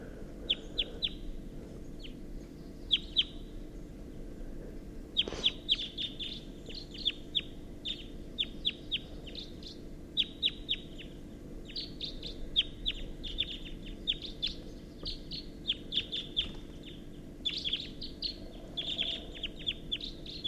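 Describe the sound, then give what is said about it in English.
At 6:14 a.m., at least a pair of wild birds call back and forth from an oak tree, with repeated short, high chirps arriving in quick clusters throughout, over a steady low hum. No one speaks. “and there's at least a pair, and they're calling from the oak tree.”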